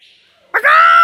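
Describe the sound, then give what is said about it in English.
A parrot at a zoo lets out a single loud, harsh squawk after a brief quiet moment, rising sharply and then holding as a sustained, nasal screech. “The parrot is not my favourite animal.”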